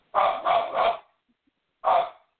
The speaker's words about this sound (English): okay, this is the part where my husband comes in, so I'm going to just gonna bear through the barking.